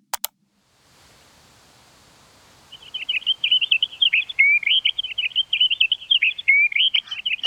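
A soft, steady outdoor hiss of wind blowing through green summer leaves, joined after a few seconds by a continuous, rapid high-pitched chirping and trilling of insects that fills the rest of the scene.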